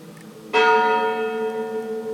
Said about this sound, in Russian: Звон церковный мне доносится.